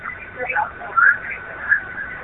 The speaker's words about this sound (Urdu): جی تو آپ T V کی آواز بند کر کے ہم سے بات کیجیے برائے مہربانی.